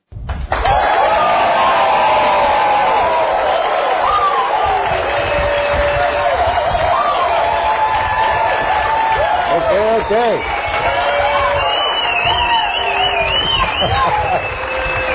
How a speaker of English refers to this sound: All right. Very enthusiastic crowd.